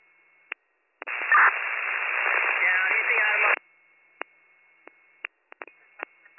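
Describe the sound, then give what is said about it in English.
A garbled, band-limited radio transmission from the unit Captain 57 to County dispatch, lasting a few seconds, voice-like but unintelligible, followed by several brief clicks and squelch pops from the receiver. “I'm getting at your talking, but I'm not getting any words.”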